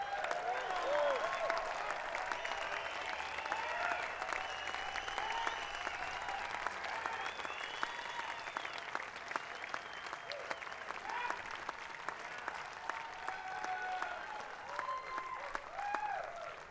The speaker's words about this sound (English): Applause is nice. Thank you for your applause.